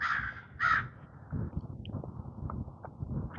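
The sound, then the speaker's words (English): Two loud, harsh caws from a glossy-looking crow ring out in quick succession in the morning, followed by a low rustling and shuffling background with a few faint clicks. “Good morning, Mr. Crow.”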